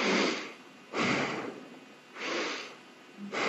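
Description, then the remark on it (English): A voice imitates heavy, raspy breathing heard over the phone: four slow, loud breaths alternating in and out at a steady rhythm, with a hoarse, airy tone and no words. “And then I heard him breathing like this.”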